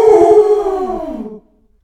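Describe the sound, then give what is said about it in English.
A dog on the moon lets out one loud, sustained howl with a rough start. The tone wavers, then slides downward before cutting off, with no talking and silence after. “And then I heard a and I knew that wasn't me, because I hadn't woofed at all.”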